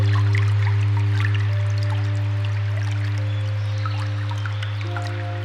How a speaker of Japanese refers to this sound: 流れる水の音に心を傾けながら、頭を空っぽに、美しい水の流れによって無駄な思考が洗い流され、不必要なエネルギーが浄化され